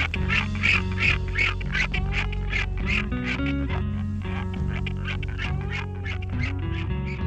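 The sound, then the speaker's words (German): Albatrosses call in a steady stream of nasal, quacking squawks, loud, layered over a slow instrumental music track with sustained guitar tones and bass. “heute gemeinsam mit dem Background-Chor leibhaftiger Albatrosse.”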